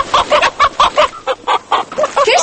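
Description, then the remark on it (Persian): Chickens in a coop cluck in a quick, steady run of short, clipped calls, about a dozen in a couple of seconds, loud and clear with no voices over them, while their dirty cage is being cleaned. “تو مرغاره چرا اله کردی؟ او زن این قفصشان پاک میکنم که بسیار خراب شده.”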